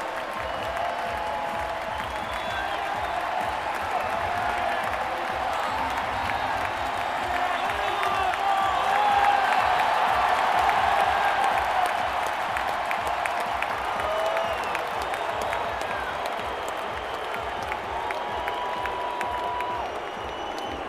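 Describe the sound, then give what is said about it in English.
A large stadium crowd roars and applauds without pause for about twenty seconds as cyclist Bardet arrives at the finish with Froome just behind, a dense, steady wash of clapping and cheering that swells slightly in the middle, with scattered whoops rising above it. “Bardet got a huge cheer, and then just behind him, quite menacing looking almost, this figure all in yellow.”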